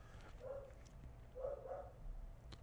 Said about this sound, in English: Let's see if my dog says anything. There she goes.